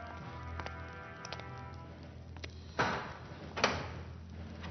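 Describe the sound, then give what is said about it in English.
A heavy door is pulled open: a low groaning creak, then two sharp scraping knocks about a second apart, with no one speaking. “Open the door.”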